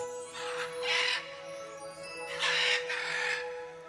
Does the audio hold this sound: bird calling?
yes